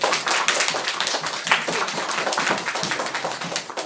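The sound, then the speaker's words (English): A round of applause from an audience for a dancer: dense, steady clapping with crisp, bright hand claps blending into a continuous patter for about four seconds, with no voices over it. “Okay, so once again, let's give Ayaz a round of applause.”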